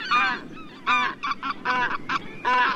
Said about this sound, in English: As geese go, white-fronted geese are especially strong, athletic flyers. When family groups come in to land at a roost, they employ a slip-sliding or falling leaf maneuver to quickly lose altitude from over 1,000 feet above the ground.